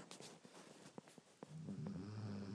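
dog snoring

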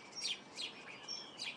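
bird chirping song

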